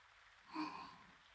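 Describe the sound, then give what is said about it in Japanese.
Soft, steady rain hisses faintly in the background, with a brief tonal swell near the middle. No one speaks. “こんな雨の日に読むと、ちょっとしんみりしちゃうような、そんな本です。”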